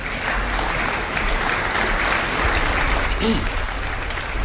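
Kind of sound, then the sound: crowd, restrained applause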